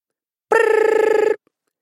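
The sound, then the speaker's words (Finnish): An alarm clock rings at exactly 7 o'clock in a single burst of rapid, buzzy trills lasting under a second, loud and harsh with a strong tonal ring, then stops abruptly into silence. “Herätyskello päästi armottoman äänensä tasan kello 7.”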